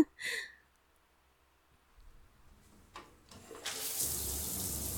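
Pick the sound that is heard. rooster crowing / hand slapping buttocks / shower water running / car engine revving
shower water running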